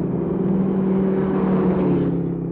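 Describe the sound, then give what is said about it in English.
Steady engine roar of two cars speeding well over the legal limit, one a black Mercury convertible with a natural canvas top, with a sustained low rumble and whine holding level throughout, loud with no voices. “Both cars are proceeding at a speed in considerable excess of the legal limit.”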